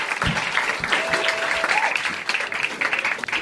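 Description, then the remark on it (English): Steady crowd applause at a stand-up comedy club for comedian Ted Alexandro fills the whole stretch, a dense crackle of many hands clapping at an even, fairly loud level, with a brief whistle-like tone and a few faint voices mixed in. “Clap it up for Ted Alexandro.”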